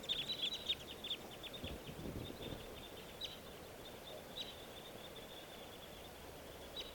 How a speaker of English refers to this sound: The two crossbills just took off, joining a flock of three others.